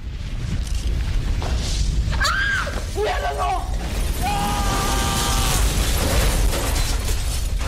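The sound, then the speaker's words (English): A continuous, loud rumbling blast of a meteor landing and exploding in an LG TV commercial shown on a massive 4K TV mounted on an office wall, with crashing and shattering debris, while high-pitched screams of people jumping from their seats rise and waver over the din for several seconds. “There's an LG TV commercial that spoofs that with a montage where people jump screaming from their seats when a meteor lands and explodes on the massive 4K TV mounted on an office wall.”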